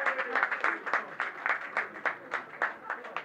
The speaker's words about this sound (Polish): Prosimy, prosimy bardzo. Brawa dla kandydatek.